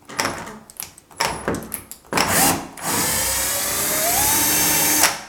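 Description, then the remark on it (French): A small flathead screwdriver scrapes and grinds against a flat-head door screw, about 8 cm long and passing through the whole door, in short, uneven turns as it is unscrewed with the door held by a foot, then settles into a long, steady grinding with a rising metallic squeak, fairly loud, with no voices. “c'est une vis à tête plate, donc il faut, je vais bloquer la porte avec mon pied derrière, et donc j'ai ma petite mon petit tournevis, et là je vais les dévisser.”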